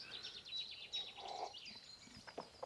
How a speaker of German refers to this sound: Und ihr habt im Hintergrund das schöne Vogelkonzert und natürlich auch ein paar Zivilisationsgeräusche.